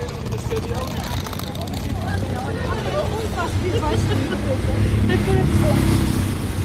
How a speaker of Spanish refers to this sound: Este es el sonido, se escucha a la gente, se insinúan sus perfiles, pero solo clarea cuando pasa un coche o una moto y enfoca la calle.